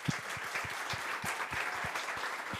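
Steady audience applause for the children, a dense patter of many hands clapping with some sharper individual claps standing out, sustained at an even level throughout with no talking over it.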